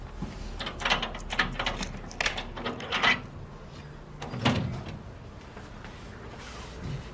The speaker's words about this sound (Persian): بهروز قفل‌های در رو باز میکنه.